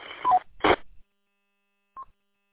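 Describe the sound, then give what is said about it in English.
A two-way radio transmission from a radio rated at 10 watts: short harsh bursts of static with a couple of brief tones, a pause of silence, then a single short mid-pitched roger beep. “It kind of sounds like you have a Roger beep at the end.”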